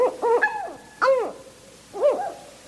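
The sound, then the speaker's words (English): A northern hawk owl calls: a quick cluster of shrill, arching whistled notes, then two more separate rising-falling cries, moderately loud with no voices. “Northern hawk owls hunt by sight in broad daylight.”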